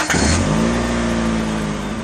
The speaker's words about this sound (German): Vor ein paar Wochen begann der Tag bei vielen mit einem Starten der Autozündung.